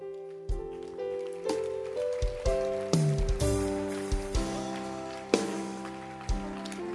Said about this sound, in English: Keep clapping.